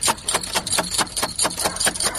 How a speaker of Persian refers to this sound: ده این نصف شاو دروزه را کی میزنه؟ او زدی چی گپ هست؟ ده این نصف شاو بونگ بونگ کده میری او مردکه بخی که دروازه اولی تک تک شد. چی؟ دروازه اولی تک تک شد؟